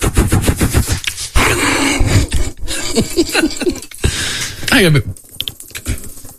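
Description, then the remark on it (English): A voice imitates a radio traffic-report helicopter with rapid, fluttering blade-like pulses, a loud choppy rhythm over a breathy, buzzing drone that wavers in pitch for several seconds. “I can't get it on the air, but that's good chopper though.”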